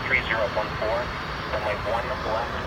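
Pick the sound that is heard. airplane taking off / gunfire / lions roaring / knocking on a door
airplane taking off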